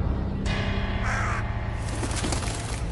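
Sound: crow cawing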